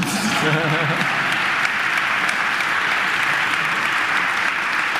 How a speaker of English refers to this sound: Applause.